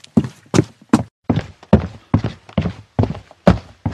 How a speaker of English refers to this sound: He ran up a flight of stairs, knocking over anything and everything that got in his way.